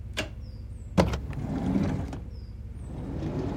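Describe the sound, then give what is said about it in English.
A few sharp mechanical clunks, like car door locks releasing and a door swinging open, with faint high chirps over a low engine-like rumble. Nobody speaks. “Unlock the doors.”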